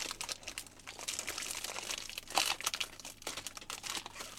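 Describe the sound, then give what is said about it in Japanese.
Continuous crinkling and rustling of the plastic wrapper of a Mugi Fa wafer snack being handled and pulled at to open it, with a sharper crunchy burst midway and no talking. “いやこれまだちょっとごめん開けるねよちょっと開けて、はい、もう親指怪我してる。”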